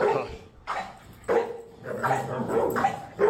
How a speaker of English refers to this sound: This is actual audio. Lucy the Wonder Dog in a standoff against Dante, the boss's dog. Never a good thing when your dog beats up the boss's dog on Bring Your Dog to Work Day.